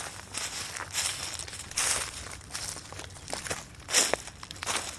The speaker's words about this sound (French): Quand je marche sur le sentier, c'est granuleux, éclatant. Des pierres qui sont par terre. Glissement. Bah ça grince.